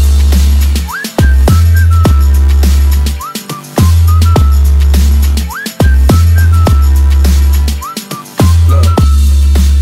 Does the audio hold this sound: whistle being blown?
yes